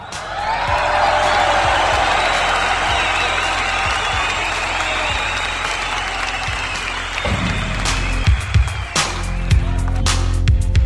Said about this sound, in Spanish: Fuerte el aplauso.